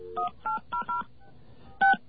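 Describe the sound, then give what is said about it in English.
Touch-tone dialing of a 1-800 ANI number: four quick dual-tone beeps in a steady rhythm, a short pause, then one louder final beep, clear with no talking. “We're going to try out that number.”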